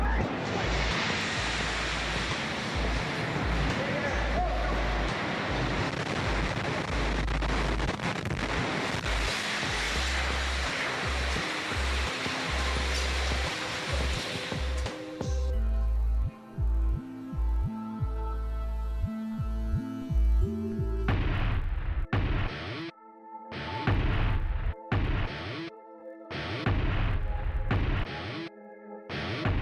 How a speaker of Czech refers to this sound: Jsme nejblíže základně World Trade Center, kam se dalo dostat. Můžete vidět požárníky, kteří jsou tu připraveni, policajty, agenty FBI. A můžete vidět obě věže, obrovská exploze, trosky padají na nás, radši o to zmizíme.